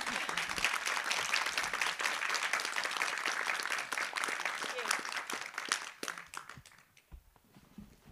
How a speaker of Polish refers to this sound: proszę o brawa.